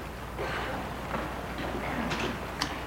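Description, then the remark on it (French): On a dark old street in Paris, rustling movement over a steady low rumble, then a couple of sharp clicks and a brief thud as a woman stops her car, opens the door, steps out and shuts it. “Arrêté dans une vieille rue, sort de voiture”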